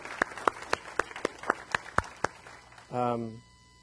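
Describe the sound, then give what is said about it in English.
Steady, evenly spaced claps ring out, about four per second for nearly three seconds, as a church audience applauds a pastor before he walks out to the pulpit, followed by a short burst of voice at the end. “And if you would just join me one more time before he walks out here, just in a round of applause, please.”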